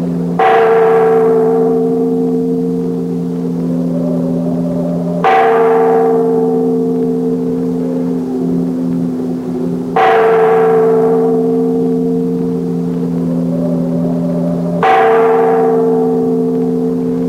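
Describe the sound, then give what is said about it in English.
A great bell in a tower in Venice, pulled by its rope, tolls four times at a slow, steady pace, each loud clang ringing out with long, humming overtones that linger until the next strike. No voices are heard. “Pull the bell cord, Vicky. Make that bell ring loud enough to wake the living as well as the dead.”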